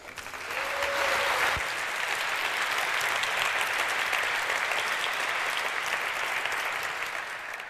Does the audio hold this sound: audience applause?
yes